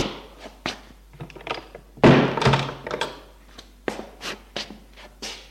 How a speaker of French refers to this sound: Ils entrent et ferment la porte.